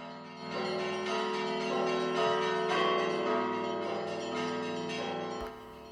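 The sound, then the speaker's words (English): Russian church bells preserved with Harvard's help peal in a steady, overlapping wash, strikes blending into a sustained ringing with rich lingering overtones, fairly loud and continuous before cutting off abruptly near the end. “Here's some more of those bells from the podcast, and I'll put a link to the podcast in the show notes.”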